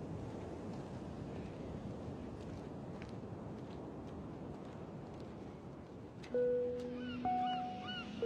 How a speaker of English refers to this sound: She blinks, slowly sits up, and looks around as the wind whips her hair around her face.